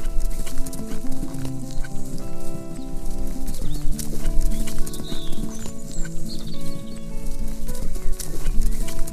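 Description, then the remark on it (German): The hooves of a white horse pound in a quick, continuous galloping rhythm through a summer forest, with sustained musical tones playing underneath and a few faint high bird chirps. “Dein Bauch kribbelt vor Glück, während ihr durch den sommerlichen Wald galoppiert.”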